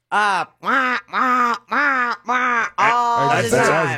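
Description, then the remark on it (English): A person imitates a territorial goose at Gatorland, giving five loud, nasal honks in a steady rhythm, then a longer, rougher, more strained honk to finish. “I mean, I know the geese will super territorial. And they honk.”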